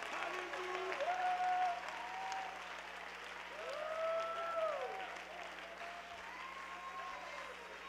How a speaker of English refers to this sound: Why don't you get on your feet and clap your hands and thank God that you're living in the last days.